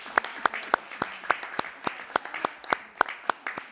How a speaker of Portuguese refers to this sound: Vamos celebrar com um aplauso. Muito bem.